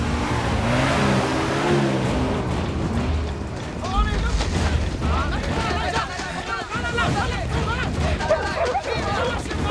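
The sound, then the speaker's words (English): A lorry's heavy engine rumbles low and steady for the first few seconds as it pulls into a forest clearing and more troops dismount, then fades under a burst of overlapping shouting voices and scattered noise. “A lorry pulls into a clearing and more troops dismount.”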